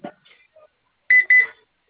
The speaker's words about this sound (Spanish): Nada más un pitido. Está trabajando el teclado.